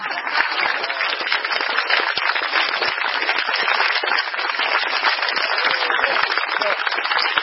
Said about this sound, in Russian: А давайте мы пригласим всех лекторов сюда, а вы нам поаплодируйте. Мне кажется, да, да. Лекторы! Подождите, вы что-то пришли. А мы будем хлопать.